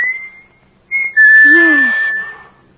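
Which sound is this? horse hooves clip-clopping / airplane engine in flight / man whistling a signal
man whistling a signal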